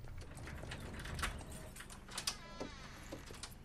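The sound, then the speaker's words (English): A key scrapes and clicks in the front door lock of a modest bungalow in suburban Kipling, with a few sharp metallic ratcheting snaps and a light jangle of keys, fairly quiet, with no voices. “Tony unlocks the front door, which opens directly onto a simple, unfussy sitting room.”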